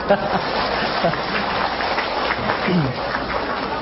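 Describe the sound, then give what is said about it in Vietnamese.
An audience at a Buddhist Dharma talk gathering in Vancouver claps steadily for a few seconds, a dense wash of applause, with faint voices mixed in underneath. “Và vừa rồi thì … nghĩ rằng chắc bấy lâu nay quý vị cũng đã được nghe thầy giảng, thầy hát, thầy ca, thành thử tối nay … miễn chứ không chịu thì tràng pháo tay.”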